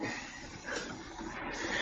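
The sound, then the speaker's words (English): A homemade pulley setup, used by a man working out to lift heavier things, gives off a steady, faint hissing whir, swelling slightly twice as the rope runs, with no voices. “Well, the you're hearing the pulley. He has his own, he kind of made his own pulley setups and stuff so he could work out and lift heavier things”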